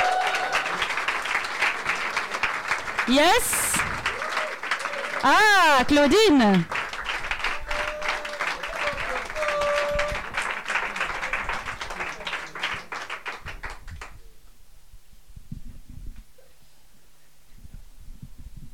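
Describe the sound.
A crowd claps steadily for about fourteen seconds, dense applause with a few cheers and brief voices over it, then it dies away into near quiet.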